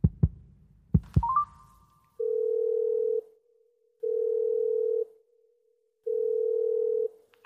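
A few soft taps and a brief beep as a memorized number is dialed on a smartphone, calling a telemedicine service, then the call's ringback tone: three steady one-second tones separated by even pauses, clear.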